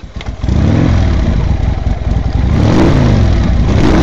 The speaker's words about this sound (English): Not long after the storm, a motorcycle gang rode into town.